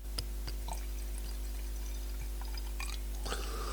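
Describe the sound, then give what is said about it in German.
Wine is poured to refill a glass in a few uneven gurgling bursts with small splashes and clinks, over a steady low electrical hum, with no talking. “Ach, ich liebe das Geräusch, wenn der Wein ins Glas läuft.”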